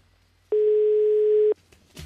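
A single steady telephone line tone, loud, sounds alone for about a second and then cuts off abruptly, with faint background noise before and after.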